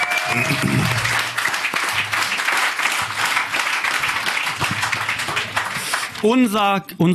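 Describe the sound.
An audience applauds in a dense, steady wash of many clapping hands that holds strong for about six seconds, then a man's voice starts talking over the tail of the clapping.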